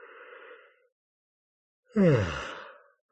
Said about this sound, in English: Okay, one more yawn and we'll go.